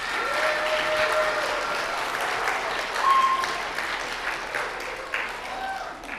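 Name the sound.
audience applause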